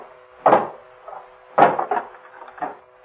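Two loud, heavy wooden thuds land about a second apart, each trailed by softer knocks and cracking, like a hammer prying at something until it gives. No one speaks.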